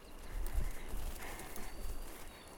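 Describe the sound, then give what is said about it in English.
Hooves of a ridden horse walking at a steady, unhurried pace as the rider urges her a little faster, giving soft, muffled thuds in an even rhythm, with faint outdoor ambience and no voices. “And squeeze her a little more, make her walk a little faster.”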